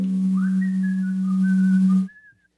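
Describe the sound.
A few long, steady whistled notes over a low sustained hum, fairly loud, cutting off abruptly after about two seconds with no talking.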